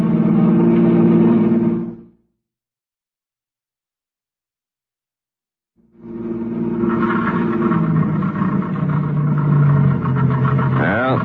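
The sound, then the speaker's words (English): A car engine rumbles steadily, cuts out into silence, then chugs back on before its pitch wavers and sputters near the end as it dies out, the car having run out of gas. No one speaks. “The end of the gas.”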